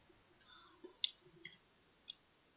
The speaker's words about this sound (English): Someone's typing.